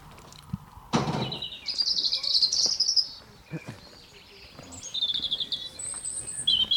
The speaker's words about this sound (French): Je vais avoir plein de chants d'oiseaux.